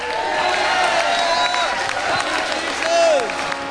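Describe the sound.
A church audience gives a shout of praise to God, shouting and cheering together in a dense, sustained roar of many voices, with scattered high whoops and cries rising above the crowd, swelling louder near the end.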